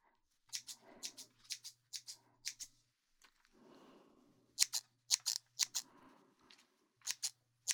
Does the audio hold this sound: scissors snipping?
yes